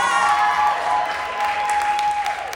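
A crowd claps steadily in sustained applause for a speaker, a dense crackling wash that stays fairly loud throughout, with a few faint voices and a thin tonal whine threading through it.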